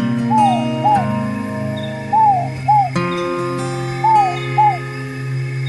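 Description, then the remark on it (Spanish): A bird sings short, swooping notes in pairs, repeating three times at a steady pace, clearly heard over a sustained, droning musical background. “cada pájaro que canta.”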